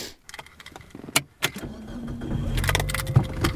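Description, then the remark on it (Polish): A few sharp clicks and clunks, like keys and a door, then a car engine cranks to life and settles into a steady, rising low hum as it pulls away along unpaved roads, with no talking. “Długie światła auta pozwalają widzieć więcej.”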